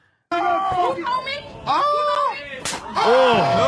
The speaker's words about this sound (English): How loud that shit is. He like came from up top, too. It was like an overhand slap. Hit her with three fingers.